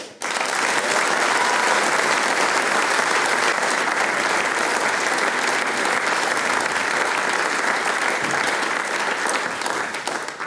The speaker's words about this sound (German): Ich darf um einen ganz, ganz großen Schlussapplaus für unsere Mitwirkenden bitten